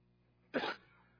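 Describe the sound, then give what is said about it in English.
A single short, harsh cough bursts out, sharp at the start and fading quickly into quiet with no one speaking. “I got a cough, so would you give me a second?”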